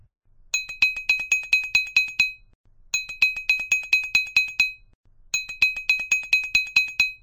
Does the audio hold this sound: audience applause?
no